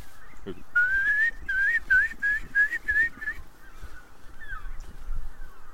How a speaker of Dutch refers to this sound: Zonsopgang boven de Wadden. Ja, en het, jongen, en het gaat dus ook meteen... Het gejodel van wulpen.